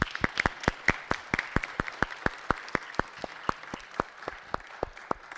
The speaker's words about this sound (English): Well, a round of applause for Sandy and Lindsay, please.